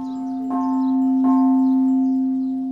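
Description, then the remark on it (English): Prayer bells at the Shwedagon Pagoda in Yangon, Myanmar, ring out with two clear strikes about a second apart, their deep, sustained tones humming and overlapping as they slowly fade, with faint chirping in the background. “In Yangon, capital city of Burma, the Southeast Asian country also known as Myanmar, prayer bells ring out at the Shwedagon Pagoda.”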